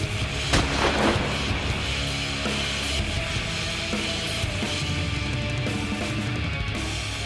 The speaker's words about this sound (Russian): И грянул выстрел.